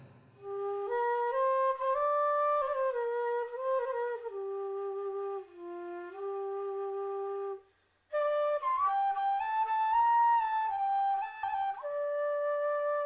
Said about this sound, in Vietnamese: Đã đến giờ tan sở, con đường Sơn Nguyệt Anh nằm như thảnh thơi hơn các con đường khác trong thành phố sôi động này. Bỗng nhiên trong không gian lại réo rắt tiếng sáo.